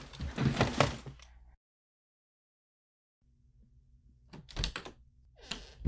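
door being shut

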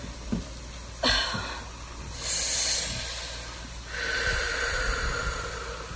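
shower water running

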